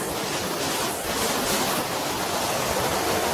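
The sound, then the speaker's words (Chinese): A steady, full roar of rushing water from a waterfall in a park on a sunny day, loud, with a constant hiss that never lets up. No one speaks. “啊，这里是个瀑布，我看。”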